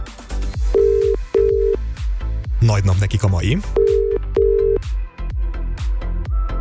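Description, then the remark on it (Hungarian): A telephone ringback tone from a call placed by the Petőfi Rádió live request show to a listener sounds in two pairs of steady, clear pulses over a backdrop of music, with a man speaking briefly between the pairs. “Az élő kívánság műsorból telefonálok.”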